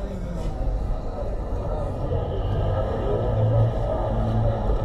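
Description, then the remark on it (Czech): A simulated café sound feature plays inside a moving electric car: a steady wash of indistinct café chatter and murmuring voices, blended with a low, continuous road and engine rumble throughout. “Proč jsi v autě pouštěl kavárnu?”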